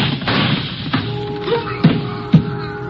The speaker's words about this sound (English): The shots came from my left, and I can hear someone running along the pier.